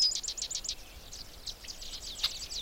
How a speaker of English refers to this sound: The chuck sounds, that's the red-winged blackbird.